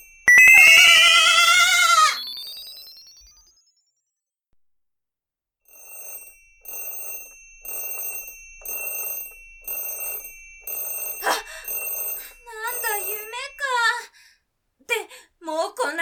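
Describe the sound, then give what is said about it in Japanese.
A three-minute timer bell rings in a steady run of rapid, repeated bursts, fairly loud, marking that three minutes have passed, after a loud vocal outburst, with voices starting to talk over the final rings. “何の音？ 時間モップ、3分経っちゃったモップ。”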